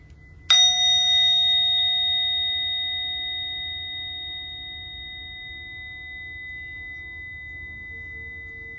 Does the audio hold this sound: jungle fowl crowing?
no